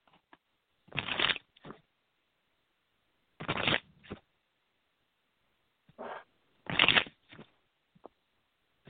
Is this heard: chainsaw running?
no